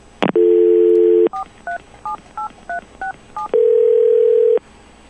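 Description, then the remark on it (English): A steady dial tone, then seven quick touch-tone beeps as a local time telephone number for Owensville is punched in at an even pace, ending in a longer sustained tone. Loud, with no voices. “It's here, I'll give you our local time number on our straight telephone line to give you an idea of the difference between Ireland and where I am right now.”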